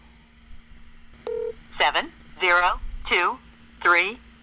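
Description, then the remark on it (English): A steady low line hum, then a short dialing beep as a real phone call is placed to a Las Vegas number, followed by four separate warbling, voice-like ringing tones with shifting pitch, evenly spaced about a second apart. “This is the first time we've actually done an actual phone call.”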